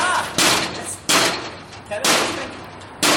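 A door is slammed hard enough to dent it four times in quick succession, each loud bang followed by a brief rattling decay, spaced roughly a second apart.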